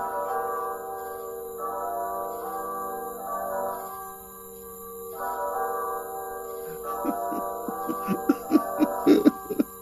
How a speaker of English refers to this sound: It is night, very late at night. As Saint-Saëns weeps over the grave of his young son, a church bell tolls in the distance.